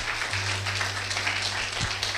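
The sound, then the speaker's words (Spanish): An audience applauds loudly and steadily for the Lord, a dense wash of many hands clapping for about two seconds, with a low steady hum underneath and no voices. “Dale fuerte aplauso al Señor.”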